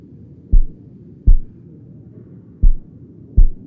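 One's own heartbeat, heard in an eerily quiet place, pounds in deep, muffled thumps, four beats falling in two pairs over a low steady hum, with no voices.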